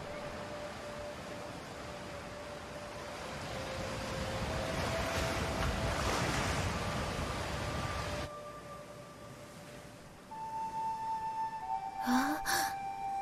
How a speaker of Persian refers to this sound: دریا شگفت انگیز و خیلی بزرگ و خیلی آبیه.